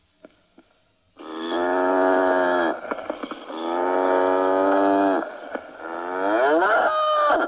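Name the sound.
cow mooing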